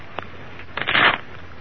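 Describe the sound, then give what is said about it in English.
A deck of playing cards is shuffled in one quick, crisp riffle lasting about half a second, after a single soft tap. “Shuffle them, would you please,”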